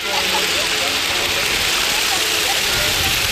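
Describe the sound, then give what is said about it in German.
Wind spinners handmade by school students whir steadily in strong wind on a beach, a dense, unbroken rushing hiss with faint fluttering tones flickering through it at a constant loudness. “So hören sie sich im Einsatz an die Windräder, die die Schüler gebastelt haben.”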